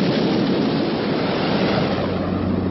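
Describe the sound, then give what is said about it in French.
A dense, steady roar of heavy storm surf crashing against rocks and churning, loud, with a wind-like rush filling the sound throughout and no distinct individual breaks. “Au plus fort des coups de gueule de la tempête, ces bouts de terre semblent un affront que la mer ne pardonne pas.”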